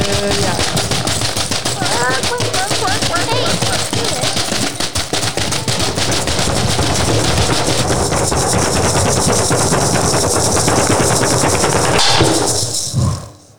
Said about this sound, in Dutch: Zo, dat was hard. Dat was weer bliksem, hè?